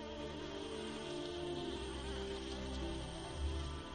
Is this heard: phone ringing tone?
no